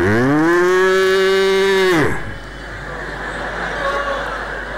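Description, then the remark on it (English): A cow lets out one long, loud moo lasting about two seconds, its pitch rising slightly before it cuts off, followed by a steady background of outdoor noise like traffic. “I'm looking for the calf because the cow is very much eager for this calf. She's calling out.”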